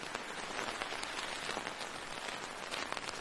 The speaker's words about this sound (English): I know for me, that's probably some of the worst weather I've ever been in. It was cold. The rain was a driving rain.